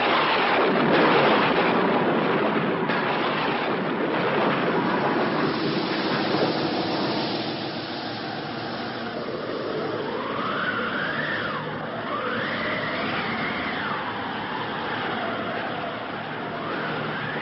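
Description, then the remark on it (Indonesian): A loud, sustained roar of rolling thunder and rushing wind from a violent storm raging outside a house, with a whistling howl rising and falling in the second half, and no voices. “Mendadak mereka dikejutkan dengan datangnya suara petir dan angin yang menderu-deru dengan hebatnya.”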